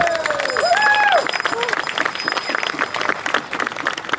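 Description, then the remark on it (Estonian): A crowd bursts into sustained, dense applause for a newly chosen king on his first jubilee, filling the whole stretch, with a few sliding whoops or whistles rising above the clapping near the start before it settles into steady handclaps. “Palun teha aplaus kuningale juubeli puhul.”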